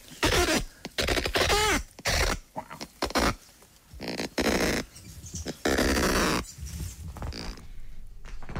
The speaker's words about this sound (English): But it's, when you hear the female response, you mightn't think that she's that impressed by it. Okay. This is the kakapo female sound.